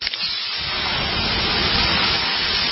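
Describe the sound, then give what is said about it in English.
Water poured on 800-degree sauna rocks hits with a sharp splash, then a loud, steady hiss of steam that fills the whole clip without fading, with no voices. “Hear that? The sound of water being poured on 800-degree rocks.”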